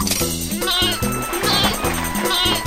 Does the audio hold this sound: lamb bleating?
yes